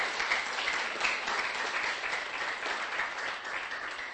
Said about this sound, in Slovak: Jemu teraz zatlieskajme. Jemu patrí teraz potlesk.